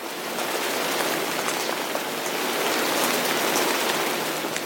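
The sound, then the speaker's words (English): Steady rain falls throughout, a dense, even hiss of drops with occasional brighter patters on a surface, constant, with no voices. “And this is very much about the weather and rain in particular.”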